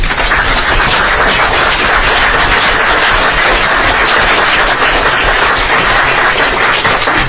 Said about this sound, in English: Clapping, so we're not done clapping yet.